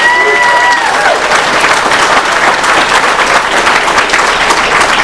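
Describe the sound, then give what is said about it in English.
A large convention audience bursts into sustained, loud applause for the addicts who organized the convention, dense overlapping clapping filling the whole stretch, with a brief high whistle near the start. “And let's go ahead and give them a round of applause for that.”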